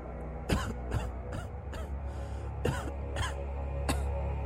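A fit of coughing: roughly seven harsh, raspy coughs in uneven bursts, close to the listener, with a steady low rumble underneath and no talking.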